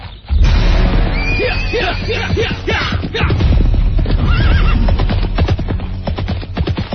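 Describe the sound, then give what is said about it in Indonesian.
A horse neighs loudly several times over a steady, rapid pounding of galloping hooves, with a low rumbling beneath, busy throughout; riders spurring their horses up ever higher slopes at the foot of Mount Merapi. “Mereka terus menggebrak kuda, menyusuri tanjakan-tanjakan yang semakin tinggi.”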